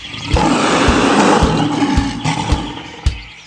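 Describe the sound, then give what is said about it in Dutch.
A loud, sustained growling roar like lions fills the whole stretch, rough, with a steady low thumping beat pulsing underneath before it fades at the end. “Maar probeer het nog eens met die leeuwen.”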